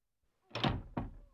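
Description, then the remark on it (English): A locked fire exit door is pushed and rattled against its lock, giving two or three loud thumping jolts in quick succession after a moment of silence. “The door! I can't open the door! The door's locked.”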